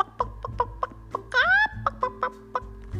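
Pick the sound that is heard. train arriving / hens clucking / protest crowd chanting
hens clucking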